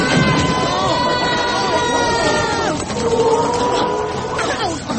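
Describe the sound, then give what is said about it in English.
A flock of chickens squawking all at once, a dense, continuous tangle of shrill overlapping calls and cackles that stays loud throughout. “Oh, they're only chickens, Max.”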